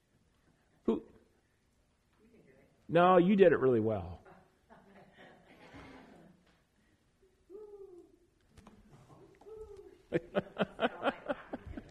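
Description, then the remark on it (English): A woman imitates an owl with one loud, drawn-out hooting call, set among quieter conversational speech and followed later by a burst of rhythmic, pulsing vocal sounds. “what did the owl say?”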